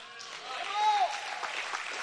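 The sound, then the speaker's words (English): An audience claps steadily throughout, a dense wash of many hands at moderate volume, with a voice or sustained tone rising briefly above the clapping. “Somebody's not clapping their hands for some reason.”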